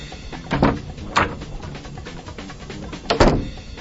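A door to the Saturday morning boudoir being opened: a handle clunk, a soft knock as it swings, then a final thump a couple of seconds later, with no voices.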